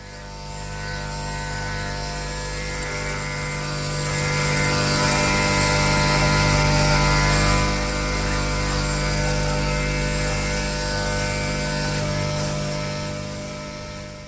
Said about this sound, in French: Il se lève, fatigué, courbaturé, va à la salle de bain se raser.